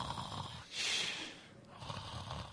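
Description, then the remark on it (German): A person imitates the snoring of someone who fell asleep during a sermon: a loud, rasping inhaled snore, then a quieter breathy exhale and another soft snort, with no talking. “Und wann immer das passiert, und dieser Prediger, der mir das persönlich erzählt hat, dieser Pastor, dem ist das auch passiert, der hat also hat gepredigt und da ist jemand eingeschlafen und hat angefangen zu schnarchen.”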